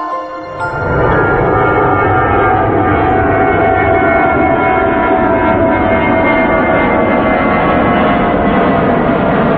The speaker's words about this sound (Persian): صدای این جتو میشنوه، این سرعت ساخت ایران تو سال 57 بوده. بله جت میره میره میره، بله اینطوری میخوره تو کوه دیگه.